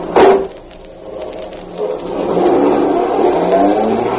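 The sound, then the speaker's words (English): A car engine catches with a sharp burst, then revs up in a steady rising drone as the vehicle accelerates away. The engine noise grows louder and higher-pitched, with no voices. “Get this car moving.”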